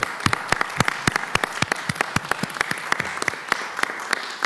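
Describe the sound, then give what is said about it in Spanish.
A crowd applauds steadily, many hands clapping in a dense, continuous patter of sharp claps, moderately loud, with no voices rising above it. “Así que de verdad, un aplauso”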